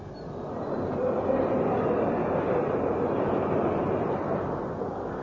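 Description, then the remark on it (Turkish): Steady, dense background hubbub of a busy train station ticket hall, a continuous wash of indistinct crowd murmur and rumbling echo with no single voice or event standing out. “bilet gişesinde.”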